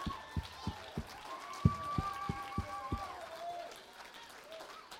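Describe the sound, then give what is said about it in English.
An audience claps in unison, about eight sharp, loud claps in a quick, slightly uneven rhythm, while voices call out over them; the clapping stops after three seconds, leaving a low murmur. “Y'all like patty cake.”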